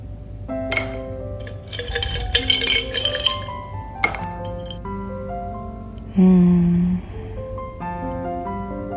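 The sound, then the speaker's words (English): Ice cubes clink repeatedly against a bowl of coconut water with blueberries, strawberries and pomegranate. A steady run of bright, ringing taps and glassy chimes, fairly loud, with a few sharper knocks mixed in and no talking. “I like ice with my cereal.”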